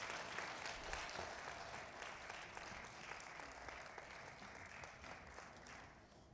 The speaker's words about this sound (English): Well, you can give a good clap offering to the Lord.